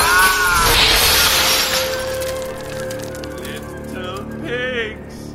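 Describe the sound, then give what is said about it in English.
A chandelier crashes down and shatters in a loud, bright burst of breaking glass, followed by scattered tinkling and clinking as the pieces settle, with voices crying out over the din. “The chandelier!”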